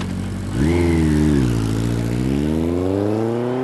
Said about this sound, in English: But even if you don't know much about engines, you can tell that a motorcycle sounds different than anything else on wheels. When the weather gets warm, sounds from the road begin to change, like bird songs, but much louder.